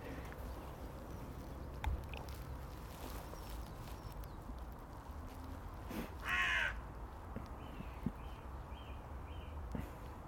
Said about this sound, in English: It's a crow. Oh, wow. Now there's a gathering. No, that's jackdaws. Yeah. Oh, they're haranguing a magpie. About five or six of them, and they're chasing a magpie